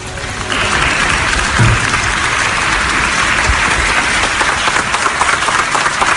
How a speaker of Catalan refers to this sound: Són els treballadors del Palau de la Generalitat, repetim, aplaudint l'entrada del president Puigdemont per aquesta reunió del Consell Extraordinària.